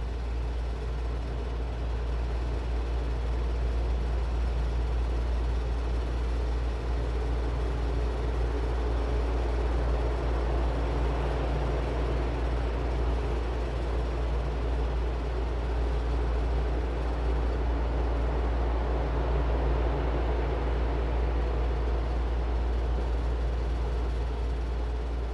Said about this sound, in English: Take a few breaths and turn your attention to the sound of the white noise and the fans moving in the background.